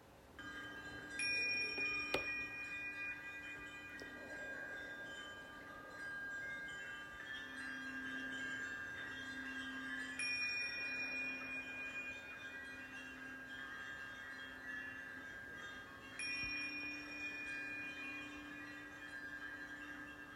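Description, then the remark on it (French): Meditation bells are struck three times, several seconds apart, each ring sustaining a bright shimmering tone that slowly fades into the next, with no voices present. “Pour poser ma respiration, je vais écouter le son des cloches et aller jusqu'au bout de ce son, tout en prenant trois grandes respirations.”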